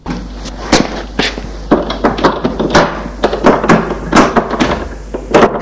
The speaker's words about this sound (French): Gérard ferme la porte à clé.